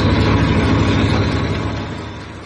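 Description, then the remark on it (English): A heavy ship engine, overheating after working flat out for 5 hours, runs loud and steady, its deep low rumble layered with a rapid, rattling mechanical clatter from the tappets, easing slightly toward the end with no talk. “Them engines don't sound so happy, do they, Chief?”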